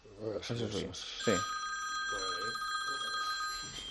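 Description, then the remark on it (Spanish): A telephone rings with a steady, high electronic trill that starts about a second in and continues to the end, while people talk over it. “¿Está sonando un teléfono?”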